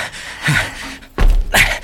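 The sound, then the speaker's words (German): An unlocked door is pushed open: a soft rustle and creak, then a solid thunk with a rattle as it swings, followed by a brief scraping tail. “Zum Glück ist die Tür nicht verschlossen.”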